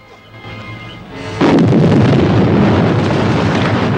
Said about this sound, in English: They find themselves near the base of the flat-top mountain and look up to see the top of the plateau erupt in an immense fireball.